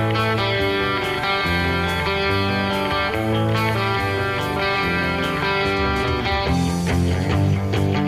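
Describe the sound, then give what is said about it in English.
An isolated electric guitar track plays alone, recorded in one take, its tone layered from several sources and heavily processed with effects and reverb, with sustained harmonically rich chords and a droning string ringing under a shifting melodic top line, steady and fairly loud throughout. “so this is the track on its own, and then there's another track that has a bunch of stuff on it, and you'll hear that this guitar track is actually made, or this tone is made up of a bunch of different things.”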